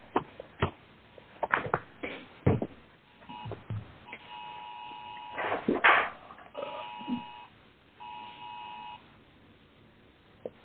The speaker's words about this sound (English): I'm sorry. I heard beeping.